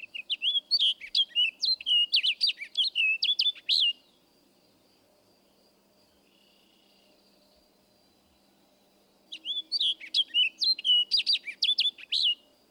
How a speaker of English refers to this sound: Our final species in this group is the orchard oriole. This is another bird with a purple finch-type warble. Listen, however, for a down-slurred weir near the end of the song.